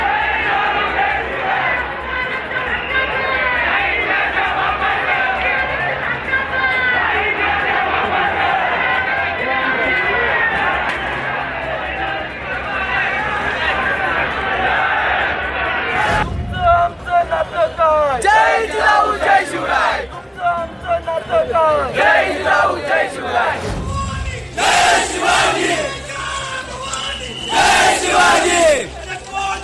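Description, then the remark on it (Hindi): A large protest crowd at Thane railway station in Mumbai, staging a rail roko, shouts and chants together in a loud, continuous roar, with rhythmic bursts of voices rising and falling and sharp whistles or cries breaking through in the second half. “ये जो तस्वीरें आप देख रहे हैं, ये तस्वीरें हैं मुंबई के थाने रेलवे स्टेशन की, जहां कुछ वक्त पहले विरोध प्रदर्शन किया गया और रेल रोको की गई, और इसी के चलते सेंट्रल रेलवे लगभग 10 से 15 मिनट देरी से चल रही है।”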